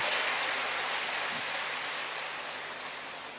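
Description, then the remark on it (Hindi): An audience claps steadily for a few seconds to encourage guests coming up to speak, the many hands blending into a dense, hissing wash of applause that eases slightly toward the end. No voices are heard. “हाँ आप ताली बजाइए, देखो अभी से उनका उमंग उत्साह भरिए कि भैया अच्छा बोलना।”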